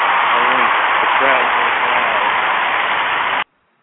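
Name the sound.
crowd applauding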